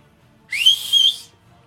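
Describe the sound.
A person whistles one short, breathy note that slides upward and then holds steady for under a second, fairly loud, with no talking around it.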